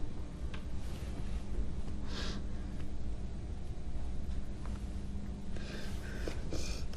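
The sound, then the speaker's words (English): A woman takes a few heavy, shaky, tearful breaths and sniffly intakes, separated by pauses over a steady low background rumble, with no talking. “She takes a few heavy breaths, dabs her eye with a knuckle, and straightens.”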